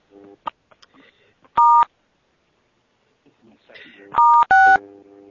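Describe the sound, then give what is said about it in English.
Loud telephone keypad tones as star and six are pressed to mute a caller's line on a call: one steady two-pitch beep, a pause, then two more in quick succession, with faint murmuring voices in between. “if you haven't already done so, please do press *6 in order to mute yourself.”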